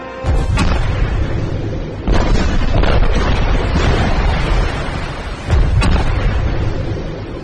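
Three heavy underwater torpedo explosions boom out as submarines are struck, each a sudden loud blast followed by a long, roaring rumble that fills the gaps between them, with no voices present.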